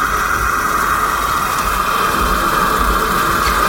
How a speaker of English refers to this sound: I think I'd find the sea quite comforting at night anyway.